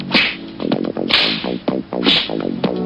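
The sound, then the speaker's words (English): Three sharp, loud face slaps crack out about a second apart, each a quick bright smack, layered over a bouncy tonal backing that keeps playing between them. “Slap your face!”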